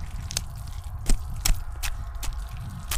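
A knife taken from a pocket stabs and slices again and again into hands grabbing a person in a cellar, about six sharp, wet squelching hits at uneven intervals, fairly loud over a low, murky rumble.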